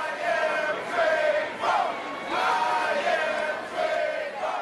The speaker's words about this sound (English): I remember those rallies, I am Trayvon, people shouting, where is this one? That one is in Baltimore.